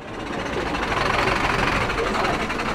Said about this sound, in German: Mit etwas Verspätung kommt nun auch der LKW an. Die Taubenkörbe werden wie Schubladen in die Seiten des Fahrzeugs geschoben.